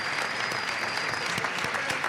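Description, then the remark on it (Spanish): A crowd in Cartagena applauds steadily for the town's residents and its council at a Fallas festival event, many hands clapping in a dense, continuous patter with sharper individual claps standing out, and no one speaking over it. “creo que estáis viendo el resultado, y solo os pido un fuerte aplauso, por favor, tanto para los vecinos de Cartagena por el acogimiento como para el ayuntamiento por lo fácil que nos lo ha puesto.”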